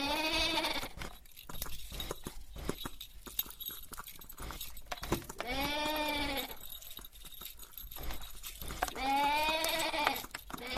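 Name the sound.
sheep bleating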